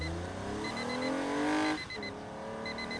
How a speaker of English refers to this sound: What's that? That's me awakening after a long winter's nap, cruising the open road in my new Toyota.